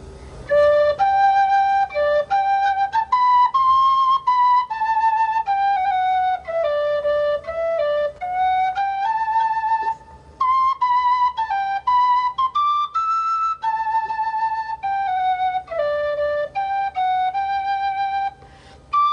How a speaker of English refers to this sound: This lovely wooden flute belongs to …, and here in my pocket is a tin whistle from ….